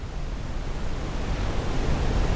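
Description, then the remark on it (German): A steady, soft wash of surf as gentle waves run up onto a white sand beach in front of a beach house, rumbling low and swelling slightly louder toward the end, with no voices. “Sanfte Wellen verlaufen sich im hellen Sand. Ihr beruhigendes Rauschen ist das einzige wahrnehmbare Geräusch.”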